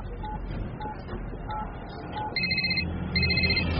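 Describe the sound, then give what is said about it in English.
A phone rings in two loud electronic bursts after a soft repeating beep and low background hum. “This could be his number, but you'll only get the call at once. Better make that call, then.”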